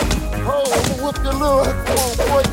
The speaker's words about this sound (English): Another ball knocks right into …, and he keels over in pain.